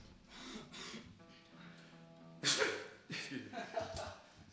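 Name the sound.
sneeze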